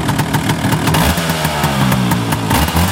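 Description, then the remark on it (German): A Vespa scooter engine is kick-started, then idles steadily, a loud, rapid putter with a rattly clatter, running evenly on its own without any voices throughout. “Einmal treten und schon kann's losgehen.”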